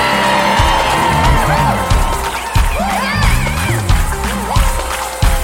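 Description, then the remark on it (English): An audience at a revival meeting shouts and cheers to God together in a sustained, loud roar. Rising whoops and cries overlap throughout, with occasional sharp bursts cutting through. “That's why he said, and shout unto God with the voice of triumph. Somebody shout.”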